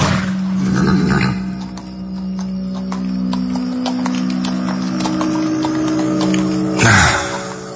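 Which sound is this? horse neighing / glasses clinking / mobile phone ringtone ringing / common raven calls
horse neighing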